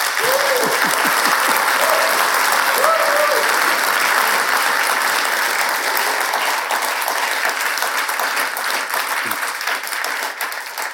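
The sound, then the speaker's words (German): Sustained applause from a live audience at the Bühne im Hof in St. Pölten, clapping unprompted at a live recording, a dense, steady wash of clapping lasting the whole stretch, with a few brief voices or cheers rising through it early on before it gradually thins. “Bei OF-Aufzeichnungen muss man das vorher immer proben und den Leuten sagen, wisst ihr, wann es klatschen müsst, aber sie haben das von sich aus gemacht.”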